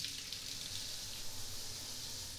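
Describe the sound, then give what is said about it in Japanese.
A steady, hissing spray of warm shower water runs without pause, even, with no voices over it, poured over a towel covering a person's whole body. “じゃあシャワーかけていくよ。”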